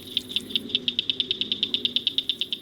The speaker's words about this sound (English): State conservationists confirmed the return of Blanchard's cricket frog to Trempealeau County in 2017. A volunteer identified the frog by its distinctive call, heard in this video from the Wisconsin citizen-based monitoring network.